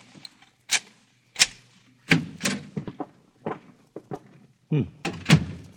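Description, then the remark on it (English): A lock clicks and rattles as a hotel room door is unlocked, followed by the clunks and thumps of the door being opened and handled, a series of sharp knocks and bumps with brief pauses between them. “I guess I'd better unlock it.”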